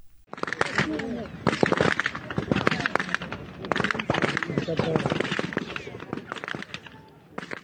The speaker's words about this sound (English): this video of Israeli forces firing on Palestinians near the Zikim crossing on July 28th, and just a warning that you'll hear a lot of gunfire.